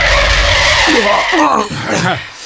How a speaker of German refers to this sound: Wow, tolle Bremsen.